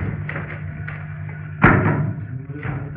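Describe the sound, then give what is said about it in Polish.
Books drop to the floor in one heavy, muffled thud partway through, followed by a brief softer knock. A low steady hum runs underneath, and no one speaks. “Spadły książki.”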